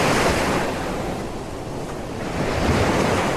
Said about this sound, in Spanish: Soc en un vaixell al mig del mar, sento les onades